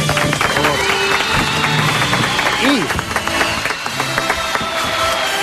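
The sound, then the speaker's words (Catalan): A crowd applauds steadily and loudly for several seconds, dense clapping, with some voices and a few shouts mixed in, applauding a listener who correctly guessed a face. “Ara sí, un aplaudiment”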